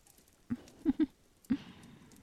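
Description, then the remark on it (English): Four soft, muffled pats on someone's head in an uneven rhythm, two of them in quick succession, over a quiet background with no talking. “It's when you call a wolf girl a good girl and pat her head like a puppy that is considered degrading.”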